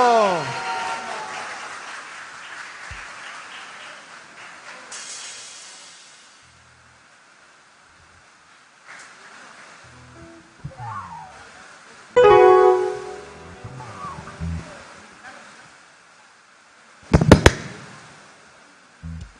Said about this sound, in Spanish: Así que le damos la bienvenida a... ¡…! ¡Fuerte el aplauso!